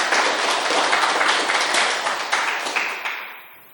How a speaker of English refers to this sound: Okay, if there aren't any more questions, maybe a round of applause. Thanks very much.